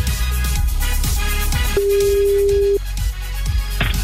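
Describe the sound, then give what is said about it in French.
A single steady ringback tone of an outgoing phone call placed live to a listener, lasting about a second, sounds clearly over a dense, busy backdrop of music and noise, with no one speaking. “Attention, le téléphone va sonner.”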